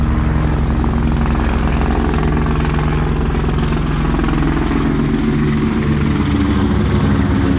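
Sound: helicopter approaching overhead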